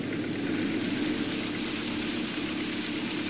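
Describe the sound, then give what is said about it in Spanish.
Steady rain falls in a continuous, even hiss, fairly loud, with a soft patter of drops running through it and no voices. “Va a llover.”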